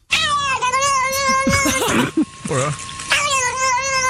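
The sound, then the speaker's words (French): A cat lets out a long, loud, wavering yowl, rising and dipping in pitch with a brief break in the middle, with no talking over it, while its back near the tail is being scratched. “Et en fait, le chat kiffe tellement que ça fait ce genre de bruit en fait chez les animaux, surtout chez les chats.”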